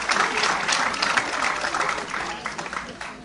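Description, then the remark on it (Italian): A crowd applauds steadily as a group of children take their places among the audience, a dense wash of many hands clapping at an even loudness that tapers slightly toward the end. “Bel applauso.”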